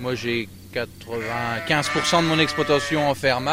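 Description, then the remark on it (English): A flock of 80 black-faced Suffolk sheep bleats loudly while being fed, several wavering, overlapping calls following one another after a brief quieter start, with no talking. “feeding his 80 black-faced Suffolk sheep.”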